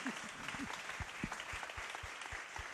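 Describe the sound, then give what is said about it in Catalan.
Steady applause from a group for a sister of a religious community, dense rapid clapping that stays loud and even throughout, with a few low thumps scattered under the crackle. “I un aplaudiment a l'altra germana de la meva comunitat”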